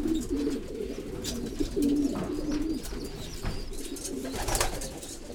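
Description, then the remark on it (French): Several pigeons coo in a pigeon loft in low, rolling murmurs that overlap continuously, with occasional wing flutters and shuffling. “Cette pigeonnelle, c'est la mère et la grand-mère de tous les bons pigeons qu'on a maintenant.”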